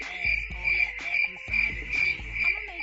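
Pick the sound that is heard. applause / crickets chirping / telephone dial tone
crickets chirping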